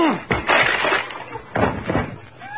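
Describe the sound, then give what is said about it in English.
Someone lunges at and crashes through a door that has no knob on this side: two loud splintering, smashing bursts about a second apart, with rattling and clattering between and after them. “I'm going to lunge at the door.”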